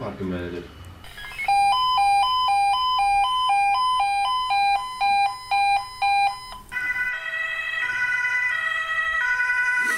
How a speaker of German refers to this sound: Es gab einen Alarm für den Rettungsdienst und der Krankenwagen ist dann innerhalb von 2 Minuten losgefahren, um zu helfen.